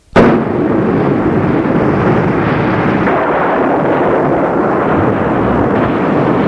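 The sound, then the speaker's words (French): A sudden crack of thunder from a violent storm with rain and lightning bursts out and rolls into a loud, sustained rumble that fills the whole storm scene without fading, with no voices present. “Mais comme avant, il fallait atteindre la fin de l'orage, car la pluie, le tonnerre, les éclairs étaient d'une violence extrême.”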